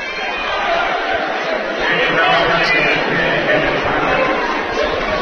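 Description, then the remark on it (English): Dense crowd chatter of Ashland and Fleming County fans filing into a gym for a basketball game, many overlapping voices murmuring steadily at a fairly loud level, with occasional faint laughter mixed into the continuous hubbub. “Good crowd here on hand as the Ashland and Fleming County fans starting to file in.”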